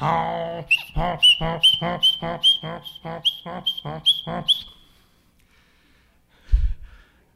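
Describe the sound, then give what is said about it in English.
An angry mule brays loudly, a harsh run of about nine rapid, rasping hee-haw pulses lasting several seconds, then silence and a brief dull thump. “But you'd get Rhodey riled and he'd sound like this.”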